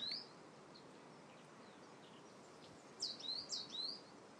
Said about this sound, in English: Bird song and wind.